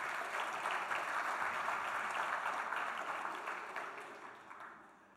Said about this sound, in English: You see, we all need brothers hanging around. Give them a clap.